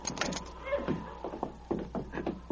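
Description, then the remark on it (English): A wooden cabin door being worked open by two outlaws carrying a bound man into the cabin: a series of rattling clicks and knocks with a brief creak, moderately loud, with faint voices underneath. “"Get that door open."”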